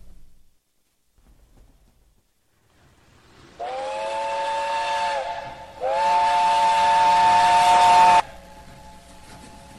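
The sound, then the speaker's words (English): A steam whistle shrieks twice in long, loud blasts, the second stronger, with hissing steam around them, then fades to a lingering drone over faint background noise of a railway station in Brighton, England, in 1962. “is set in a railway station in Brighton, England, 1962.”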